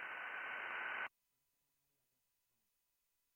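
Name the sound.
radio static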